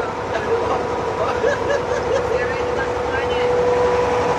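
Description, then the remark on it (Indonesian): A boat motors steadily across water, its engine a constant loud drone with a thin whine running through it, while faint voices come and go beneath the noise. “Wah, jadi ke depan perahu ini ngeri kan? Dia kan ngeremnya enggak tahu.”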